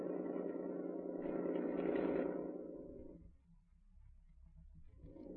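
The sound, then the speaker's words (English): A new car's engine runs with a steady, droning hum that swells slightly, then drops away to a low rumble before picking up again near the end. No voices are heard. “Stop the car and get out.”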